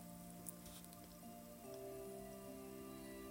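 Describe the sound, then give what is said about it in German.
Soft, steady trickling water of a clear brook flowing gently over stones in a small clearing, with a light patter of droplets, quiet and continuous, layered over low sustained tones that hum gently underneath. “Setze dich hier hin und höre das beruhigende Geräusch des Wassers, wie es fließt und funkelt.”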